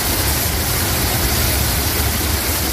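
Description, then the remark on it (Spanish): Rainwater shooting up out of the road through the ventilation ducts on Calle Narváez during rain, forming a geyser, makes a loud, unbroken roar, a dense hiss of rushing water over a deep rumble. It holds steady throughout, with no voices. “El agua sale disparada hacia arriba desde la carretera a través de los conductos de ventilación. Y no es ninguna avería, es simplemente la lluvia.”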